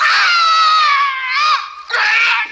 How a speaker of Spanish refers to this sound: Bueno, a todo esto, mientras están pegando gritos, se están persiguiendo por el sitio, que no sé cómo se llama, el gimnasio, ¿sí?